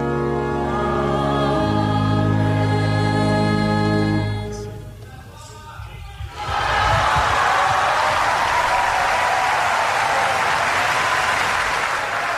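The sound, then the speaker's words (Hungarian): Sustained tonal music with a chanted or sung line fades out, then after a short quiet gap a loud, dense wave of applause from a large crowd bursts in and continues steadily to the end, greeting the Holy Father's catechesis, as is customary. “Kedves Mária Rádió hallgatók, a szokott módon tapsviharral köszöntik a Szent Atya mai katekézisét.”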